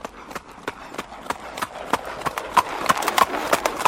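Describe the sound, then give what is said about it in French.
Steady clip-clop of horse hooves from a horse-drawn carriage, sharp regular strikes in a walking rhythm, growing slightly louder, with faint background noise and no talking. “À Lutèce, les automobilistes sont contraints de rouler au même rythme que les calèches, laissant les chevaux au repos sous le capot.”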